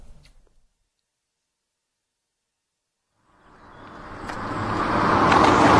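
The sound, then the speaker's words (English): After a few seconds of near silence, a car's engine and road noise swell up steadily, growing loud as the vehicle approaches and drives by. No one speaks. “I'll park the car behind the container.”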